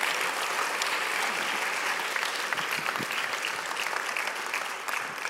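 An audience applauds and cheers steadily for a man's wife as she comes up to the front, a dense, even wash of many hands clapping with scattered sharper claps and some cheering mixed in, holding a strong level throughout.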